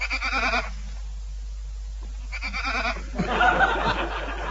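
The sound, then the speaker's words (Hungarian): A sheep bleats three times, wavering: a short call, a pause, then two more calls back to back, the last one longest and loudest. “Aztán még a birkám beékesen béget.”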